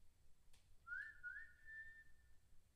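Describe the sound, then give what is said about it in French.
A short whistled tune from a mother calling her child back to the house from behind laurel bushes: a couple of quick rising notes slide into one long held tone, heard alone and fairly faint over a low background rumble. “J'entends siffler derrière les laurels que mon père a juré de tailler bientôt.”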